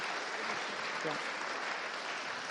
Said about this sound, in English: Let's give the children a clap.